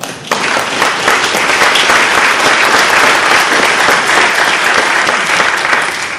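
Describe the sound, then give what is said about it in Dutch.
A church audience breaks into sustained applause thanking those who took part in the service, dense overlapping clapping that rises quickly and holds steady and loud for several seconds, with no voices standing out. “Mijn applaus hebben jullie en dat van de gemeente ook, denk ik.”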